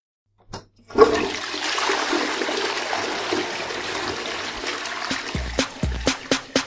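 A toilet flushes loudly, a sudden rush of water that swirls steadily, then breaks into gurgling glugs as the bowl drains. No one speaks.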